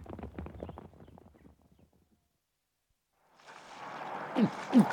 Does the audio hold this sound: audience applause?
no